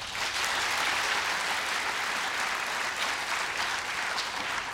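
A crowd applauds steadily for several seconds, a dense, even wash of many hands clapping at once, fairly loud and sustained without pause or voices over it, clapping to show that environment and climate change is among their top political issues for the 2020 caucus season.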